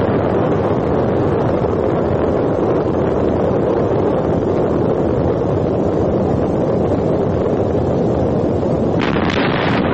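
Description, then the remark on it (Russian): A loud, sustained roar of an explosion's second reflected shock wave passing, a dense low rumble with a rushing, wind-like hiss that holds steady throughout, with a brief sharper gust near the end. “Это прошла вторая отраженная ударная волна.”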